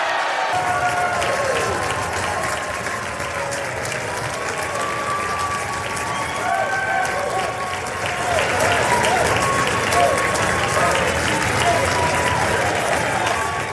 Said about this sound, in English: That applause coming from the Democratic side of the aisle.